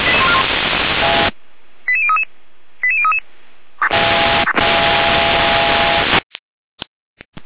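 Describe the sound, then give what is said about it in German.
Dispatch control centre (Leitstelle) radio alerting tones: two quick clusters of short, high beeping tones set between loud bursts of hissing radio static, which then cuts out into silence broken by a few brief clicks. “Leitstelle mit Alarmierung.”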